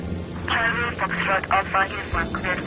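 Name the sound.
small propeller plane engine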